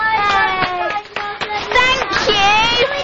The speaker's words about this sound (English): So well done to both of you. Let's give them a clap.